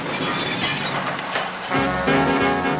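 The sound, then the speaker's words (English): A bus crashes into another bus: a loud crash with glass shattering and debris clattering, then a steady droning, ringing tone carries on after the impact. No voices. “Another bus crashes into Stan's.”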